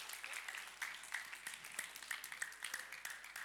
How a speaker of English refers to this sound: Give them a round of applause as they head back.